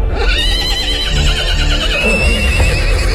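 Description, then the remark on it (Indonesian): A horse neighs loudly, a long wavering whinny that rises and trembles for a few seconds, with faint stable rustling underneath. “Mereka bergegas menuju kandang kuda yang letaknya di belakang.”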